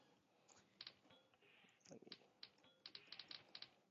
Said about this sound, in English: I should mention that I've actually got my noisy typewriter set up because I'm used to having this. I actually like having audio feedback when I type. I hope you enjoy it as much as I enjoy it, but we'll find out.